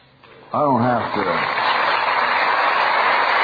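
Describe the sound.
Loud, dense audience applause as the audience applauds themselves, starting abruptly and keeping going steadily, with a voice briefly calling out over the clapping right as it begins.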